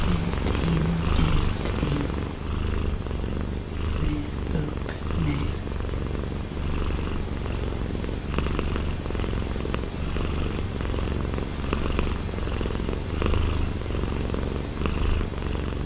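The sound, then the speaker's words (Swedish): The domestic cat Rocky purrs steadily, a continuous low rumbling throb that holds at an even level for the whole stretch with no voices over it. “Man hör skillnaden på, det är katten Rocky som spinner.”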